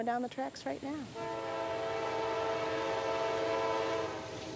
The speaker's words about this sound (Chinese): 我们甚至能听到一辆火车沿着铁轨正在驶来。